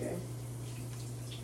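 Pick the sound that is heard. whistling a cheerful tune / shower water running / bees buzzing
shower water running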